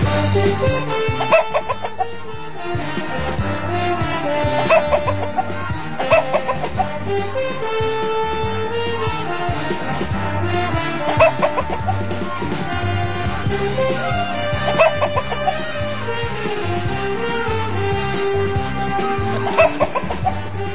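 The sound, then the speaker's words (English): A cockerel whose leg was broken in a fox attack clucks repeatedly against a dense, continuous backdrop of sound, with sharper clucks popping out every few seconds at a steady, fairly loud level throughout. “It's about that cockerel called Napoleon.”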